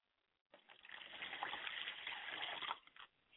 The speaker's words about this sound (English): Let us pour libations to the north, and we call on Ishun, and we call on the Babalaw, and we say Ashe.